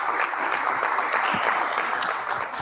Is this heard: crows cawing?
no